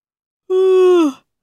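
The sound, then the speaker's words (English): A single drawn-out, voiced yawn acted out by a person as the March Hare yawning at Alice's tea party, steady and fairly loud before sagging in pitch and trailing off, alone with no talking around it. “The March Hare yawned.”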